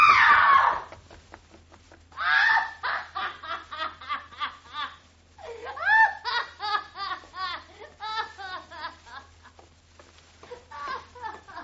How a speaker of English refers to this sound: She screamed. A trick. She's playing a trick. Like the Ripper was at her.